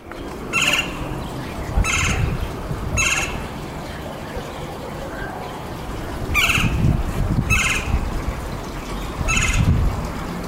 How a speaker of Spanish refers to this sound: Fíjese que ayer estábamos en la azotea de casa y escuchamos este canto que habitualmente escuchaba en el bosque del Centinela. Lo grabé y quise compartirlo el día de hoy. Vamos a escuchar al pájaro carpintero.